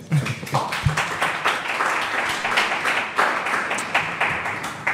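An audience applauds steadily for the full five seconds, a dense, bright wash of many hands clapping at an even level with no speech on top.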